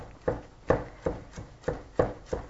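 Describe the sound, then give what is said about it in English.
A knife finely chops garlic on a cutting board, about six crisp, evenly spaced taps in quick succession, fairly quiet, with no talking. “So gave that a stir, bought myself a little bit more time, and now I'm just back and I'm chopping up the garlic pretty fine.”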